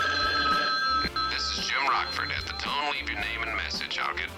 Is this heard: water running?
no